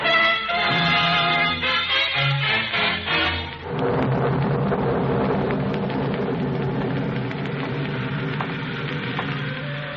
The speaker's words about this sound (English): The rain was nasty and cold.